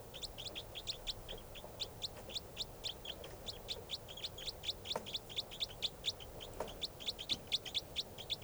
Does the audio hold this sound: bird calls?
yes